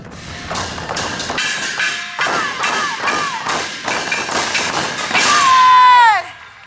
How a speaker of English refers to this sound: The Lu Chun drum we just saw was used to cheer on the army.